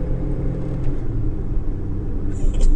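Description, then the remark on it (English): Steady, deep rumble of car engines in Los Angeles traffic, continuous and fairly loud throughout, with a brief higher hiss rising near the end and no clear talk over it. “L.A. traffic will make you want to murder somebody.”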